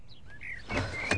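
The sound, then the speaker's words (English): The front door of a Victorian mansion swings open with a brief scraping rush and a sharp click of the latch near the end, preceded by a few faint high chirps. Moderately loud, with no voices. “I'm sorry to have taken so long to answer the door.”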